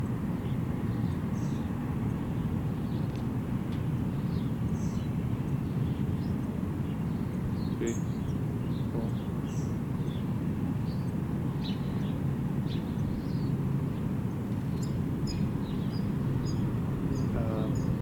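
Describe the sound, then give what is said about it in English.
Faint, high chip calls from a brown-headed cowbird fledgling flying about 10 yards west after a towhee to a sycamore tree in the evening, repeated in scattered short bursts, nearly buried under a steady low rumble of aircraft or traffic. “That sequence of calls just now was as the bird flew after the towhee, flew about 10 yards to the west to one of the sycamores, and gave these several chip chip chip calls on in flight.”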